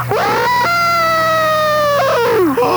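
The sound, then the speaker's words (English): A person imitates a wolf howl as a call for a full-moon night on radio station Y100: one long, loud wavering call that rises quickly, holds a steady high pitch, then slides down at the end. “I just wanted to give you my wolf call for tonight since it's a full moon.”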